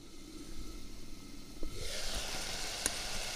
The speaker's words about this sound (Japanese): 最初にハマグリの出汁を取ります。小鍋にハマグリと白ワインを入れて蓋をして火にかけます。